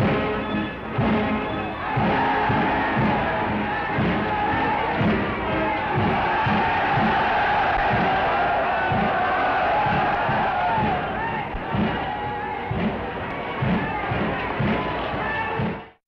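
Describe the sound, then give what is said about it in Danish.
A huge crowd at a Nazi mass rally in Germany in the early 1930s roars and cheers continuously for about sixteen seconds, loud and dense, with a steady pulsing rhythm of shouts and stamps running through the din. “Ja, som man kan høre og fornemmer så, at det optagelser fra et nazistisk stormøde i Tyskland i begyndelsen af 30'erne.”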